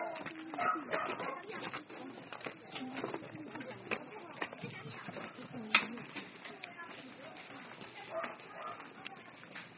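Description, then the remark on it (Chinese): A crowd of puppies yipping, whining and yapping nonstop at a dog kennel, a busy overlapping chorus with people talking underneath. “全部都是小狗的地方哈，然后中间那一排呢是母狗，全部都是狗妈妈或者是女生，然后最左边都是男生”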